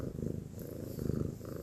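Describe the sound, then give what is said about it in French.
A domestic cat purrs, a steady low rumbling drone with a soft pulsing rhythm that continues throughout, with no other sounds or voices. “Quand je rentre chez moi, généralement j'écoute le chat qui miaule pour s'appâter, du coup je lui sers”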